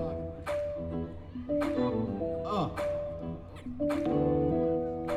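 A dog whimpers in high, wavering whines, broken by a few short sharp barks spaced about a second apart, fairly loud, with no one talking.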